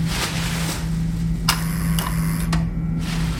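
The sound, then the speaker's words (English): A door release button clicks and an electric lock buzzes briefly, then a couple more sharp clicks as the door unlatches, over a steady low mechanical hum. Someone carrying rubbish bags hits the button on the way to take out the bins. No one speaks. “Holding my breath, I walked to the left, dumped one of my rubbish bags down, and hit the door release button.”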